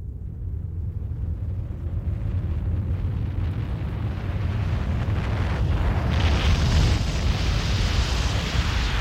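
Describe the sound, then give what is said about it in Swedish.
A deep, continuous roaring rumble of a mudslide of thick black sludge, sliding at about 30 km/h toward a small village school, grows steadily louder, dense low-end energy swelling with a rushing hiss that intensifies near the end. No voices. “I Mr. Davis klassrum är det brummande ljudet nu nästan öronbedövande högt och barnen skriker i vild panik.”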